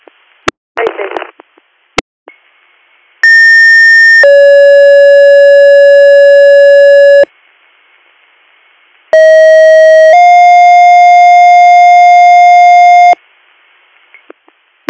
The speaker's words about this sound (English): Stand by for tones.